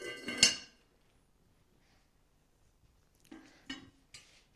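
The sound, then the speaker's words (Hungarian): Beautiful, finely crafted porcelain dishes in a house clink as they are handled: one sharp ringing knock, a silent pause, then three lighter clatters in quick succession, with no talking. “Egy házban nem csak ilyen gyönyörű, míves porcelán edények vannak.”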